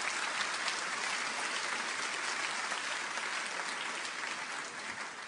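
Steady applause from a church audience for the pianist, a dense crackle of many hands clapping at an even level for several seconds, with no voices standing out.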